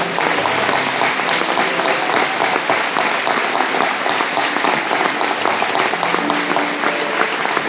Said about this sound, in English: He's thankful for that. Let's give him a clap